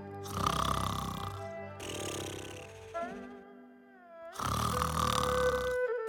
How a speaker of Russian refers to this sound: Не бойся, они спят. Слышишь, как они храпят? Действительно, храпят.